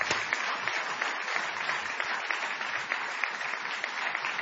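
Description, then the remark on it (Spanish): Steady, dense applause from a theatre audience at the Multiteatro of Carlos Rottenberg, an ovation for Jorge Dorio, a continuous wash of many hands clapping, sustained evenly without any voices standing out. “No menos intensa ha de ser la ovación que depararemos a nuestro Jorge Dorio.”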